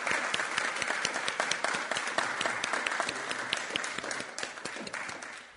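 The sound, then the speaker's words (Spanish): After the signing of an agreement document with LATU, a crowd of people applauds steadily, dense overlapping claps at an even level for several seconds before gradually tapering off at the end. “Bueno, muy bien, ahora sí, ya con todas las firmas, vamos a proceder al aplauso correspondiente.”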